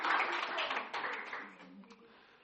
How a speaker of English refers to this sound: Yes, well, a round of applause for our volunteers. Very good.